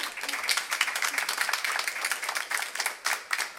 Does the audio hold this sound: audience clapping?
yes